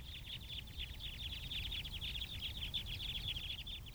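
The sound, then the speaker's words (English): A flock of crossbills flying overhead gives rapid, overlapping high 'flip flip' or 'chip chip' calls in a steady stream throughout, over a constant low rumble of wind, recorded at Fayetteville Country Club, Arkansas, on a windy day in December 2012. “Here's a flock overhead. I recorded this at Fayetteville Country Club on a windy day in December 2012.”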